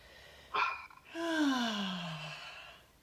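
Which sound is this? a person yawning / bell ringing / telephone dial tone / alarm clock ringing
a person yawning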